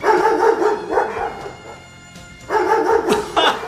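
A dog barks in loud bursts, a quick run of sharp barks, a brief pause, then another flurry of barking, as it attacks a martial artist during a fight, with no one talking over it.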